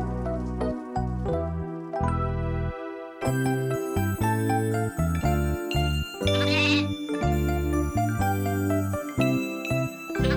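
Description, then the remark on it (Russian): A young goat bleats loudly and repeatedly, its wavering cries following one another almost without pause, with a faint tinkling bell in the mix and no talking. “У меня живет козленок, я сама его пасу.”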